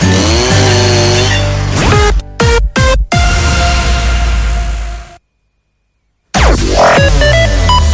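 A chainsaw runs loudly up close, its motor whining and revving, chopped by a few brief cut-outs, then falls silent for about a second before revving up again.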